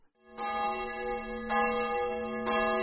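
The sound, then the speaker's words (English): Church bells ring at noon in Fod, a town near Budapest, Hungary, in three strong strikes about a second apart, each tone humming on and overlapping the next, heard clearly with no voices. “Every day at noon, church bells ring as Ebrar Hussein Mirzai finishes his Hungarian language class in Fod”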